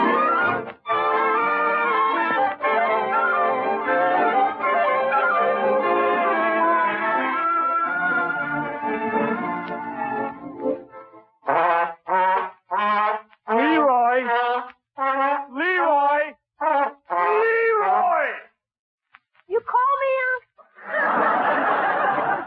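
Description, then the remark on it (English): An old school trombone blares loudly in long, sustained brassy notes for about ten seconds, then stops and voices follow in short, animated bursts. “Is that horn making you deaf?”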